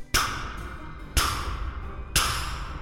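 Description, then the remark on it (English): Three loud, sharp knocks on a front door land about a second apart, each ringing out briefly before the next, with no voices around them. “And just then I heard a knock at the front door.”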